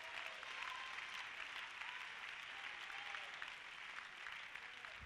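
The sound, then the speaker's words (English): An audience claps hands to the Lord in a dense, sustained wash of applause, steady and fairly loud throughout, with faint crowd voices mixed in beneath the clapping. “Clap your hands to the Lord.”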